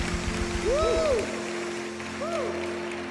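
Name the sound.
audience applause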